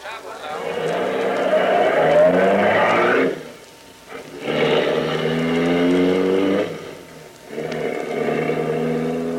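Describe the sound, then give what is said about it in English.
A car engine roars as it accelerates hard up a side road, its pitch climbing then dropping with each gear change before rising again, loud with no one talking. “We better get out of here. Turn up the side road fast.”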